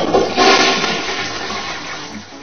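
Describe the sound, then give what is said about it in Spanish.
A toilet flushes loudly, a rushing, gurgling surge of water that stays strong for a couple of seconds before easing slightly, with no one talking. “Sí, es el Día Mundial de Retrete.”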